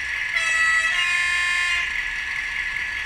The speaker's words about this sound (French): Voilà, notre locomotive est démarrée. On fait un petit klaxon juste pour rigoler.